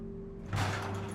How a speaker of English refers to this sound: Later, a garage door is raised, revealing the Mercedes.